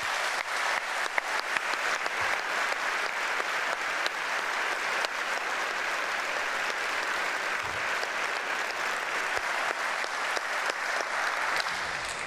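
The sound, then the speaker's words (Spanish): Sustained applause from a large audience, a dense steady crackle of many hands clapping at even loudness for about twelve seconds, with no voices standing out, given in thanks to the countries that supported the search for the ARA San Juan submarine, at an event marking Argentina taking on the G20 presidency. “Así que creo que entre todos, en muestra del agradecimiento y el afecto hacia todos ellos, les pido que demos un aplauso.”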